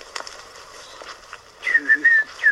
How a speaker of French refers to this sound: Quand on entend en migration les petits chevaliers gambettes qui passent, là, je peux pas m'empêcher aussi de faire les mêmes sons qu'eux